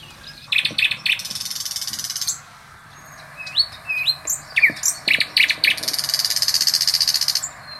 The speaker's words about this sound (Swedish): Men den kan inte hålla sig från att lägga in massa skorrande, kräxande läten också. Som gör att man kanske snarare blir galen än tycker att det är en fin näktergal.